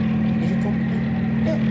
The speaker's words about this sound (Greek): Ελικόπτερο, αγαπητοί ακροατές, ελικόπτερο! Από το παράθυρο του ραδιοφωνικού σταθμού βλέπω ένα ζαλισμένο ροζ ελικόπτερο με ασημένιες ρίγες που χορεύει μπόσα νόβα μέσα στη χιονοθύελα.